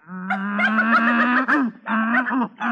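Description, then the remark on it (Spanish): A donkey brays loudly: one long, drawn-out groaning call, then two shorter honking bursts after brief breaths, with no talking. “¿Quieres que me convierta en burro? Me gustará mucho. Pues mírame.”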